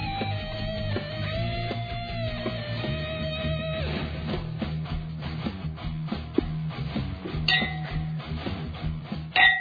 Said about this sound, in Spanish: estamos sonando las copas, que es un acto maravilloso, para en este brindis recordar un nuevo aniversario de Antena Libre